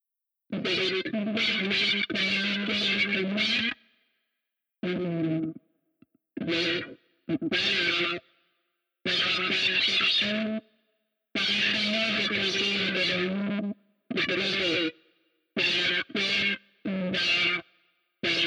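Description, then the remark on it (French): A heavily distorted, crackling man's voice, presented as the voice of the dead speaking from a tomb, talks in choppy bursts separated by short silences, loud, its words smeared into an unintelligible, gritty buzz. “je mettrais un peu de grésillement, comme ça je mettrais un peu de distorsion.”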